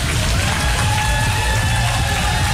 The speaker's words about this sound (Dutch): En dan vraag ik het aanwezig publiek hier een heel groot applaus voor deze jongens.